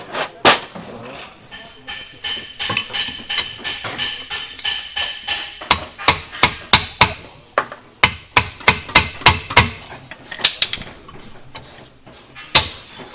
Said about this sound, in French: Voilà, je démonte les tambours pour voir l'état des plaquettes à l'intérieur. La garniture de frein. Mais bon, j'arrive pas, là, je suis un peu bloqué. Bon, c'est le marteau, hein. Marteau.